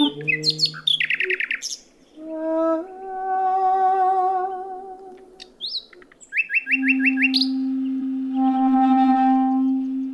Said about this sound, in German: suchen die Nachtigallen gerade Berlin auf, um mit den mannigfaltigen Klängen dieser Großstadt in einen Wettstreit zu treten, wie beim lautlichen Markieren des eigenen Reviers anderen Nachtigallenmännchen gegenüber.